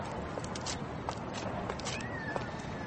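A faint, drawn-out stray cat meow rises briefly out of a steady outdoor hiss at a sanctuary for stray cats, at the end of a pathway through the maples on the far side of Center Block, with soft scattered footsteps or clicks and no one speaking.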